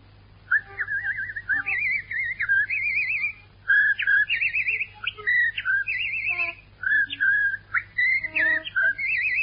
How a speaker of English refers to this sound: Well, I whistle, too. Yeah? Just a moment. You know, people fall asleep if you whistle that way. Huh? Put something in it like this.